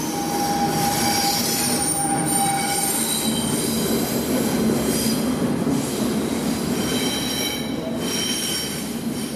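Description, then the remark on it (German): A Swiss train travelling from Zürich to Bern rolls steadily along the rails, a continuous loud rumble with a thin high-pitched wheel squeal running through it and a faint rhythmic clatter, without any voices. “Um den Mann zu treffen, der den perfekten Ablauf des Schweizer Bahnverkehrs überwacht, muss man weiter in die Schweizer Hauptstadt reisen. Abfahrt zur Minute 02 in Zürich, Ankunft zur Minute 58 in Bern.”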